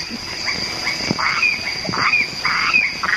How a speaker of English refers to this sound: Here they are, the crickets, the frogs, the cicadas and all their brood. The noises come to you from Stirling Island in the Treasury Group, which, as you all know, is at present occupied largely by New Zealanders.